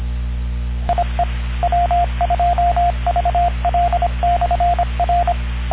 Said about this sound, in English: Repeater, time out.